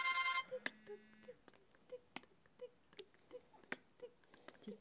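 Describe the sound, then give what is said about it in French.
A phone alarm ringtone: a bright electronic chime opens, then a steady train of short, evenly spaced beeps repeats for several seconds at a fairly constant, moderate volume, with no voices. “De plus en plus fort. Ça me réveille, ça va, c'est pas féroce”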